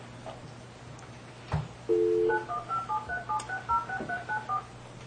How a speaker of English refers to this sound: Isn't it amazing how it works when you dial the right number?